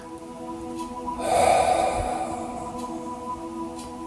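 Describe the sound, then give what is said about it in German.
A single deep, breathy inhale and exhale swells for about a second, airy and hissing, over a soft, steady droning background tone, as a person deliberately makes the exhale audible during a guided breathing exercise. “Mach das Ausatmen für dich hörbar, sodass du ganz bewusst wirst mit dem Abgeben.”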